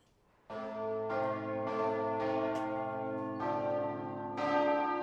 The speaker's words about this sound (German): Die meisten Hamburger Kinder kennen dieses Glockenläuten. Es stammt von der Hauptkirche St. Michaelis, die am Hafenrand steht und weit sichtbar ist.